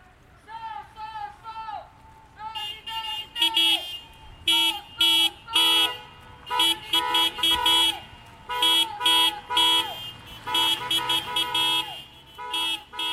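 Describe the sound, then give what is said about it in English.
Car horns from a line of waiting cars honk over and over in loud, rhythmic bursts, several blasts in quick succession, mixed with chanting voices. “Car honks and chants slow”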